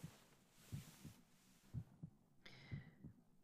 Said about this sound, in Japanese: これだけ密着しちゃってると、僕の心臓の音、聞こえちゃってるかな？